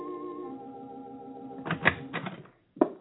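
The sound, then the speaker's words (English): A sustained, humming musical tone gives way to a short series of sharp knocks on a house door at night, irregularly spaced, with a brief silence before two final raps. “Consequently, he was somewhat surprised one night when he answered the knock at his door.”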